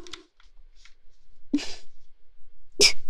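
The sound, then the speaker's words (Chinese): A few short, muffled bursts of breath as someone tries to hold back sneezes from an itch, sharp, spaced apart by quiet gaps, with the last one the loudest. “真的好痒，好痒，快忍不住了。不行，不能打喷嚏，再怎么男人也得忍住啊。”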